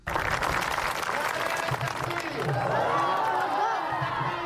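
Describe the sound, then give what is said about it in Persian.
Hundreds of schoolchildren and teachers at schools in Achin district, Nangarhar, Afghanistan, cheer and clap in welcome as schools reopen after six months of closure, a dense, sustained roar of overlapping young voices and applause with high shouts rising above it throughout. “این صدای خوشی و استقبال صدها شاگرد و اساتید مکاتب در ولسوالی اچین است که با تازگی از چنگال گروه داعش بیرون شده است.”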